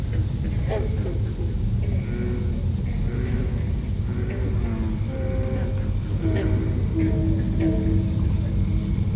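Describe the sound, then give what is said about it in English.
Low, throaty bullfrog croaks rise and fall through a night chorus, set against a steady high trill of crickets that never lets up; no one speaks. “The bullfrog starts to sing.”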